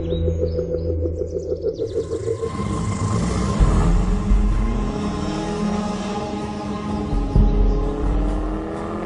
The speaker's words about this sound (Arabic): بسم الله علشان اشغل السيارة.